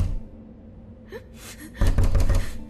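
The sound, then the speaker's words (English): A quick series of firm knocks on a round door with a large copper knob, coming in a rapid burst after a brief breathy sound, with a low rumble underneath and no talking. “They anxiously knocked on the door.”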